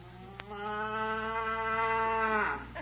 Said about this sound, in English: Which one did she blow, Daddy? She doesn't blow those horns. She was just mooing.